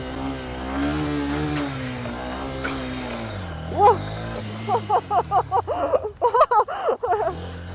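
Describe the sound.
A custom Honda Rebel 500 motorcycle engine rumbles with a steady, low droning idle that shifts in pitch, while short bursts of voices break in over it toward the end.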